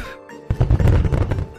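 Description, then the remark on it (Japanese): Aerial fireworks launch and burst: after a brief quiet lead-in, a sudden loud boom erupts into a dense, rumbling burst of crackles and pops that continues to the end. “正解は打ち上げ花火の音でした。”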